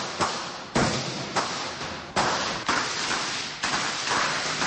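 Illegal firecrackers go off in a street in Serbia, about seven sharp bangs at irregular intervals, each trailing off into an echoing outdoor rumble, with no voices.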